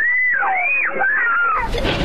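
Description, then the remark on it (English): Loud, high-pitched screams from middle school children inside a school bus without seatbelts as a car crashes into it, Albuquerque, 2022; the screams rise and fall in wavering wails for a second and a half, then give way to a sudden burst of harsh, noisy commotion. “You can hear their frightened screams.”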